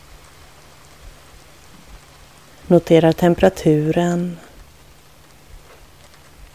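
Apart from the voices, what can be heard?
soft rain falling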